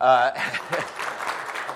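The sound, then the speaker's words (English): A short spoken word gives way to a church audience applauding newly introduced members, a dense, steady patter of many hands clapping at moderate volume that carries on evenly to the end. “You can clap.”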